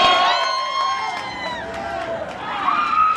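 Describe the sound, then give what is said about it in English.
Loud, high-pitched screaming from several voices at the opening of the Blood Manor haunted house, the first scream, one long shriek holding for over a second and then falling, with another scream rising near the end over a crowd's noisy babble. “With that first scream, Blood Manor is officially open.”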